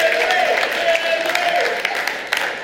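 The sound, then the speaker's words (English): Audience applause for an audience member who pronounced a long word shown on screen, a dense, steady wash of many hands clapping at an even loudness throughout, with a faint sustained voice or cheer mixed into the crowd noise. “Not the golf clapping. This deserves a real shout out.”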